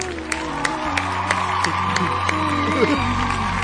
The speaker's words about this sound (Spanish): ¡Fuerte el aplauso! Ahí está.